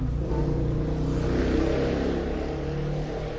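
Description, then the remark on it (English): A motorbike engine revs steadily, a continuous throaty drone with rising and falling pitch filling the few seconds, no voices over it. “In that world there won't be any revving motorbikes either.”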